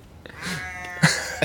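A single sheep bleats once, a wavering, nasal call lasting over half a second, followed by a couple of short knocks. No one speaks.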